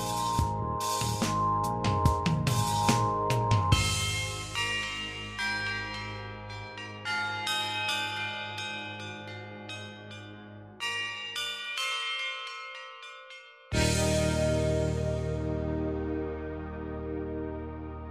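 Church bells peal loudly and close, with rapid overlapping strikes at first, then long shimmering resonance that fades before a fresh heavy stroke rings out and slowly decays.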